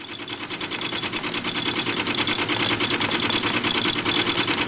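Rapid, steady mechanical clattering from coin minting machinery at the Swiss federal mint, in a production hall on the ground floor of an old Bern townhouse where Swiss coins are made; a dense rhythmic chatter with a bright metallic edge that rises slightly in loudness and never pauses. No voices are heard.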